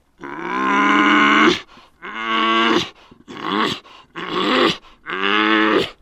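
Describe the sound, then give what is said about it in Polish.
A bull bison bellows five times in quick succession, each deep, guttural roar lasting about a second with short gaps between, loud with no other sounds; a bull answering another bull, the roar rolling across a forest clearing. “Była to rozmowa dwóch leśnych olbrzymów, w której każde słowo było grzmotem. Po polanie ryk toczył się od brzegu do brzegu, aż knieje drżały, budziły się pola, a w wioskach ludzie stawali i słuchali, mówiąc: słyszycie?”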